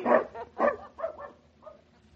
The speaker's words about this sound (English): Now they both like me, so I'll never know. Down, dog! Down!